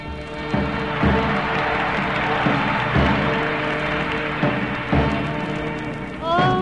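A steady patter of audience applause greeting a singer's appearance in a pink party dress and blonde hair at a big band performance, dense and fairly loud throughout, with faint sustained musical tones underneath and a brief rising instrumental note near the end.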